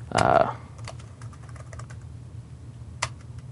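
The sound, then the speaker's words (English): Keys clatter on a computer keyboard, with a burst of quick strokes at the start, then scattered light taps over a low steady hum. “So we can say from I'll just start using the keyboard.”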